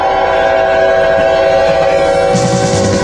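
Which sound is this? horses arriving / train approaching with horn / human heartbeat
train approaching with horn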